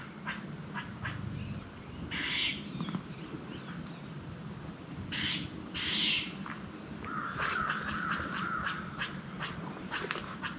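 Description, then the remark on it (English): Deer blowing: a few sharp, breathy alarm snorts burst out at irregular intervals over a steady low rumble, with scattered faint clicks and rustles between them. “Hear those deer blowing?”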